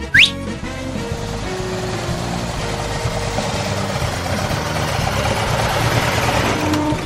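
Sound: car engine running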